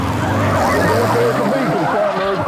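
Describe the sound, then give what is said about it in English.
A motorcycle ridden by a suspect fleeing a deputy brakes hard at a stop sign, its loud engine note sliding and wavering as it slows, over a continuous wash of busy traffic noise. “At a stop sign, the rider goes from the throttle to the brake.”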